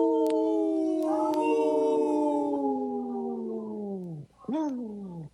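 A wolf howls alone, one long sustained note that slowly sinks in pitch for about four seconds, then a short second howl that rises and falls away. Fairly loud.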